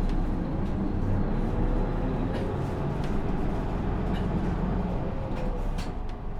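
Steady low engine rumble and road noise fill the interior of a city bus on route 13, running from Higashi-Naniwa-cho 3-chome and Obama Nishiguchi toward Hankyu Tsukaguchi. Faint rattles and clicks sound over a constant, loud hum as it travels between stops. No one speaks.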